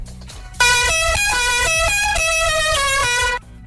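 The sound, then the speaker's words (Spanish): A loud chorus of car horns in a traffic jam blares almost continuously for about three seconds, several overlapping honks shifting in pitch over a low traffic rumble, with no voices. “Hoy en el tráfico el mismo atasco de siempre.”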